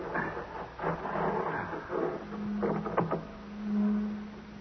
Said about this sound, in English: Come on, what's that? Sounds like a motor of some kind. It's Dr. Madeira's, probably.